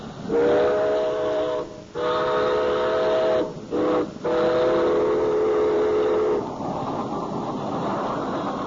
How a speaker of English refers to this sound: I think there's a train coming in. I believe you're right.